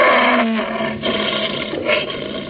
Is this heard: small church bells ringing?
no